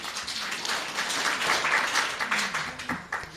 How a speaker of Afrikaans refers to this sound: Ek dink ons kan gerus 'n bietjie applous gee vir daai voorlesing.